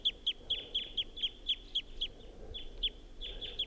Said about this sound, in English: So recording 7:26. That wild bird is up in the tall pine above the net and was giving flight song and song phrases.